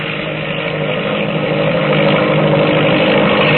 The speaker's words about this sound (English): But the biplane, she's overtaking us. She's coming like a streak of lightning.